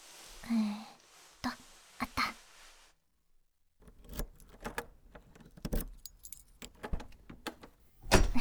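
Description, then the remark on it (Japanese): Keys jangle in a few quick bursts, followed by scraping and clicking as a key turns in the lock of the door to a home near the station, ending with a louder metallic clunk as the door unlocks. “鍵は…”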